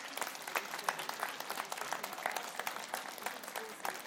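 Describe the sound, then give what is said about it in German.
A crowd applauds steadily, many hands clapping in a dense, even wash of sound that holds at a moderate level throughout, with no voices standing out above it. “Applaus.”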